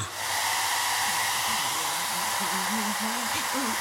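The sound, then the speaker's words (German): A hair dryer blows steadily, a loud continuous whooshing roar with a faint voice murmuring underneath. “Also Leute, ich habe noch nie einer Hyäne beim Föhnen zugeschaut.”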